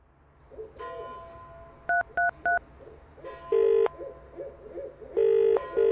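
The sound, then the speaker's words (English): A large owl sitting on a telegraph pole hoots repeatedly in the background while three quick telephone keypad beeps sound, followed by a couple of longer, louder steady tones. “I can see this large owl sitting on a telegraph pole”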